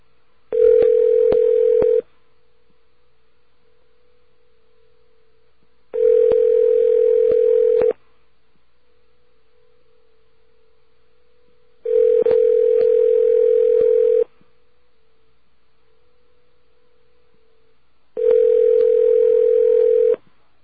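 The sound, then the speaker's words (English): A telephone line tone sounds in four steady two-second bursts, evenly spaced with about four seconds of quiet between them, loud and clear with no voices. The call is placed to the 800 number of Freddy the Fox, of the Alliance to Outfox Phone Fraud. No separate dialing beeps are heard. “you can dial this number, too, by dialing 1-800-9-OUT-FOX. Here we go.”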